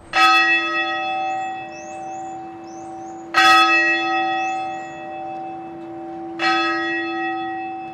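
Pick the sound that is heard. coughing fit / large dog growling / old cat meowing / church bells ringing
church bells ringing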